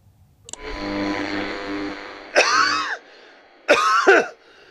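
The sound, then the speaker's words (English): A loud throat clearing rumbles for almost two seconds, followed by two harsh, raspy coughs with a rattling, wet edge, each separated by a short pause. “It's like this rattling whenever I cough.”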